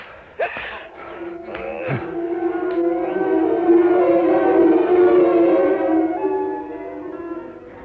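A wolf lets out one long, steady howl that swells and holds for several seconds before fading slightly, preceded by a few short rustling knocks at the start; no one speaks.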